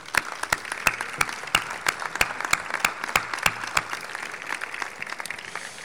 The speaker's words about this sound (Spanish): Desde aquí, un fuerte aplauso para ellos.